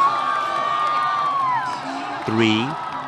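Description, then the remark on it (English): Thousands of spectators, mostly students and nearby residents, on a soccer field at Beijing Institute of Technology cheer and whoop in a loud, sustained roar as a countdown ends and the opening ceremony begins on a giant screen showing China Central Television, with high yells, whistles and a sharper burst of shouting near the end. “The crowd erupts as the spectacle begins on China Central Television.”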